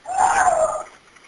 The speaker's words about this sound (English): On one, you can actually hear in the background a voice crying out for help.